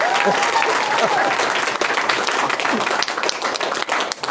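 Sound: audience applause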